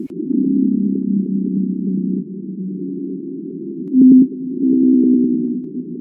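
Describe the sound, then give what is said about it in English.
A blue whale's deep, droning moan rolls on steadily for several seconds, rising briefly to a louder, purer tone near the end before settling back into a low rumbling call. No voices. “On the opposite side of the speed and size scale, there's the blue whale.”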